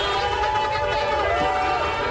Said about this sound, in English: You can hear people cheering. You can hear horns honking. Lots of celebration here in Pasadena. Thousands of people on the street, and they will spend the night here.